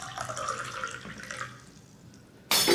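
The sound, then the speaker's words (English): Tea pours into a cup in a steady trickle whose pitch rises as it fills, then fades to quiet before a sudden loud, harsh burst of noise cuts in at the end. “Pour him a cup as well, my dear.”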